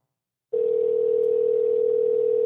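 An old-style telephone ringing tone of an outgoing call to a guest: a single steady, mid-pitched electronic hum that starts abruptly after a short silence and holds unbroken for about two seconds, with no voices.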